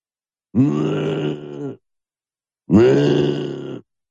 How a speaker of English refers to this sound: She's snoring.